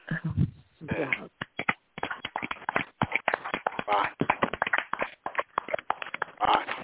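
A burst of clapping from a small group, dense, uneven hand claps running steadily for several seconds at close range, with faint voices mixed in.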